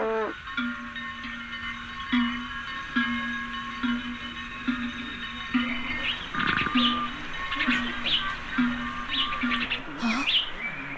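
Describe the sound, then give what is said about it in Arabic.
Birds chirp and tweet in a busy outdoor chorus, with a steady low hum underneath and bright bursts of calls growing denser in the second half. “شكرا لك يا ربي على نعمة الماء، وأصوات هذه الطيور تؤنسني.”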